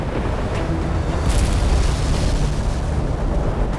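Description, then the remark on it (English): The hull of the ship Louisiana crashes onto the rocks of an island's rugged shoreline at a bay's mouth a little after 2 a.m.: a loud, continuous low rumbling roar with a few brief cracking bursts of splintering timber, sustained throughout with no voices. “A little after 2 a.m., the sound of cracking timber filled the ship as the hull slammed into the rugged shoreline of an island at the bay's mouth.”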